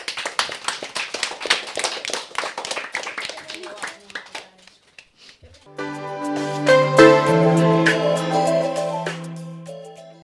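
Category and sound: crowd, applause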